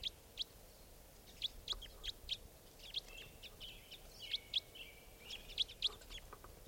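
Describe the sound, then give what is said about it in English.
Repeated sharp, high-pitched bird calls of the new Type 5 call type ring out in a steady series, about a dozen short chips spaced roughly half a second apart, over a quiet outdoor background with no voices. “That was the new Type 5. That's Type 4 number 2. Flying up to another tree there.”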